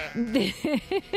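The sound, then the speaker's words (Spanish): A flock of about 600 sheep bleating, several overlapping wavering calls in quick succession, moderately loud, with no one talking. “de 600 ovejas para prevenir incendios y regenerar el suelo.”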